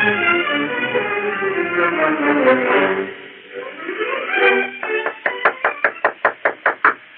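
A run of about nine firm, evenly spaced, loud knocks on a door, coming right after a stretch of swelling orchestral music.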